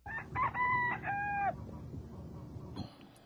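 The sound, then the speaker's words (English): A rooster crows loudly, one strained, harmonic cock-a-doodle-doo lasting about a second and a half, followed by low farmyard rumble and a brief higher squawk near the end. “They sent for all their rooster friends, and those were welcome too.”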